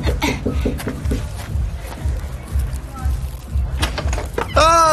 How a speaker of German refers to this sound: Keine Ahnung. Aber ich klopf mal an.